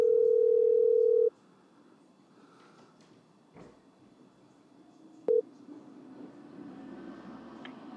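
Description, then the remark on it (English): A phone line rings out on the caller's end: one loud, steady ringback tone lasting about a second, then faint line hiss and a short beep, with no one answering or speaking. “No, he's not picking up.”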